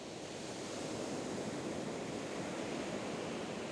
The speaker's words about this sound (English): and look at the ocean that is coming in. And I want you, with your dominant hand, to place these items, these symbols, onto the sand so that the waves can come and take them away, one by one.